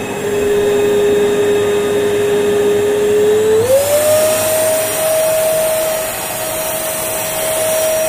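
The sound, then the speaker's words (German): A Dirt Devil vacuum cleaner roars steadily, its motor whine climbing in pitch and loudness partway through as it is turned up from the lowest setting to full power, then holding a loud constant drone. “Ja, das ist ein Staubsauger.”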